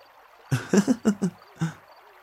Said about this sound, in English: Hey! Don't whip your tail at me! I told you to stop splashing.